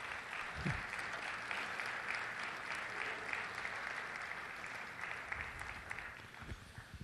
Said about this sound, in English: Could we applaud the word of God and the messenger?